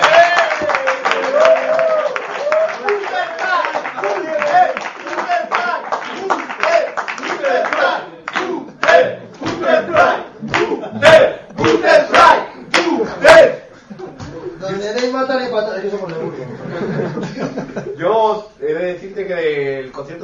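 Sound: audience applause and cheering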